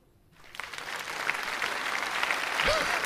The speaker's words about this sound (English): That's polite applause. There's a lot of politeness going on.